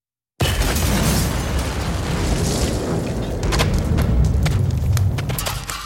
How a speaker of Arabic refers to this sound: ومع أول خطوة انفجرت السيارة.